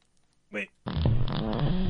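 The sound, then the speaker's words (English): A brief electronic chime, then a loud, drawn-out fart sound effect played by an Alexa smart speaker on voice command, sustained for over a second through its small speaker, with a slightly tinny, boxed-in tone. “Alexa fart.”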